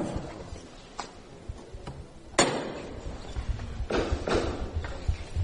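One loud, sharp metallic knock from the hammer of the llamador on the paso of Nuestro Padre Jesús Nazareno in a chapel, struck by the Lord's camarera as the first strike to lift the float. A couple of fainter taps come before it, and a crowd murmurs in the background.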